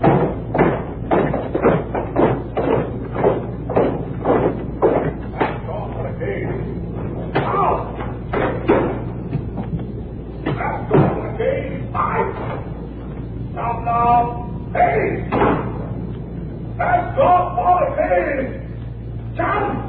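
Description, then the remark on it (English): Doors slam shut again and again in the hall at CBS for the weekend closing of the doors, loud sharp bangs in quick, irregular succession, with people talking and calling out between and over the later slams. “So it's out to the hall here for the weekend closing of the doors here at CBS.”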